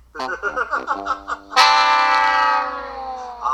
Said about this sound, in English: That's the fail button. Fail button.